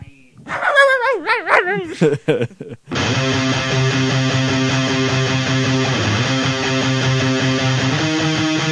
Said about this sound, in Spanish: Este es de raza, no labrador, es raza de ladrador. Porque este ladra a toquiqui, a todo lo que pasa por la puerta.